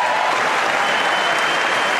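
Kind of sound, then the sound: crowd, applause in Congress chamber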